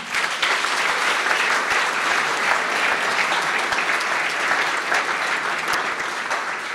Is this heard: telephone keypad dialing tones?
no